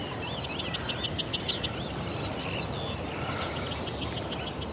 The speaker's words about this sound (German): Und wer durch die Brodowiner Karpaten wandert, wird garantiert mit Vogelkonzerten belohnt, wie sie vor 100 Jahren noch gang und gäbe waren.